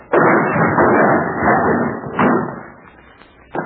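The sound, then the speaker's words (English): A door is forced open with a heavy shoulder blow: a loud crash followed by a sustained rumble of splintering and clattering, a second thump partway through, and a final knock at the end. “They don't make doors too big for you. Put your shoulder to it.”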